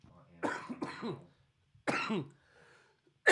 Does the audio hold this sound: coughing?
yes